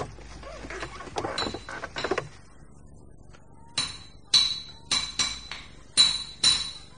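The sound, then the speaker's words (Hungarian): A blacksmith's hammer rings on an anvil, striking a horseshoe with about seven loud metallic blows in an uneven rhythm. Softer clattering comes before the blows begin. “A patkót majd fölveri gyorsan a Krisznóci kovács.”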